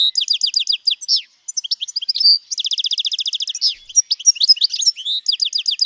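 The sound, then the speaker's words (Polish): A European goldfinch sings a fast, bright, tinkling song of high chirps, rapid trills and buzzy twittering phrases, continuous and lively with no voices present. “Szczygieł. No to jest chyba gatunek bardziej znany niż dzwoniec.”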